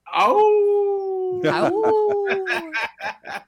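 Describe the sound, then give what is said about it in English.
Several people howl together like wolves for the Timberwolves, long sustained rising and falling wails that overlap, followed by a few quick bursts of whooping and laughter. “You know, you didn't howl with us, but maybe we should howl again for the Timberwolves tonight”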